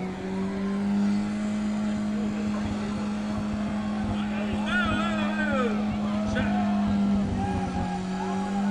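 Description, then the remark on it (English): A car doing a tire-shredding burnout, its exhaust pipe exiting the side: the engine roars steadily at high revs while tires squeal and scrub in wavering high-pitched bursts, with a rumbling, gritty texture throughout. Voices can be heard faintly underneath. “And we congratulate him for destroying a set of tires.”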